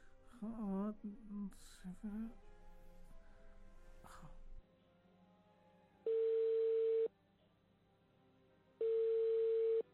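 telephone dial tone

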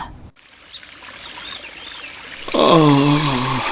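flowing river water

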